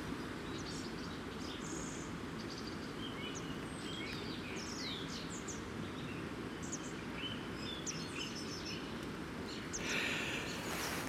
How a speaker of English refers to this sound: I don't know whether you woke up with a song in your heart, but the birds seem to have done. That's a lot of activity, a lot of singing.